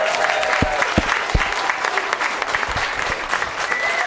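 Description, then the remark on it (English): Steady audience applause for the speaker's mother, many hands clapping in a dense, continuous patter at an even, fairly loud level throughout, with no voices standing out. “Can we give a round of applause for my mother, please?”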